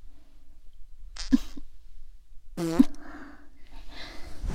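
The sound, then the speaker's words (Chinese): Two short, buzzy fart sounds from a young woman, the second longer and louder than the first, separated by a brief quiet gap with faint breathy background noise and no talking. “来，学姐放屁给你闻。”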